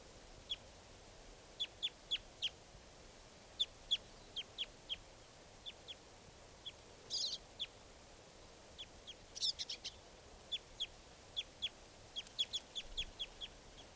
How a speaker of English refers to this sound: And he's joined by some other birds now.